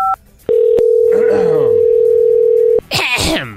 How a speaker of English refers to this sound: Man! Stupid phone! Who is it calling?